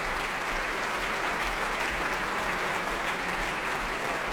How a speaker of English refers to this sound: He's back on the platform, brought the orchestra to its feet, acknowledging the applause from the audience here in the Royal Albert Hall.